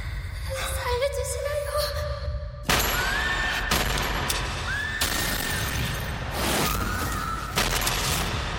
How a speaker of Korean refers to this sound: 한 남자가 살려달라는 목소리와 총소리에 눈을 뜹니다.